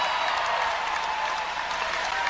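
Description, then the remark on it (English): A large basketball crowd cheers and applauds as Josh Spidel scores 2 points, in a steady, dense roar that stays loud and unbroken throughout, with no distinct voices standing out. “Do you want to hear the call, Kevin, real quick, and the crowd and all that stuff?”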